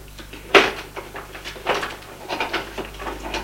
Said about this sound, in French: Après avoir lu, elle fouille dans les tiroirs. Elle trouve rien de bien intéressant non plus. Des cigarettes.